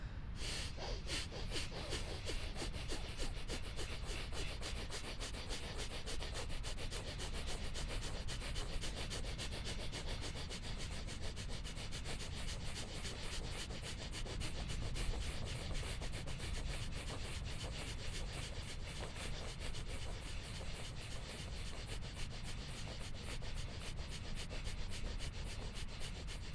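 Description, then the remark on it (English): Fast, forceful rhythmic breathing during a breathing exercise, each breath a sharp rushing puff exhaled through the nose in a steady rapid pulse that holds its intensity throughout, with no talking. “Keep it up, keep breathing, keep staying intense, fully in.”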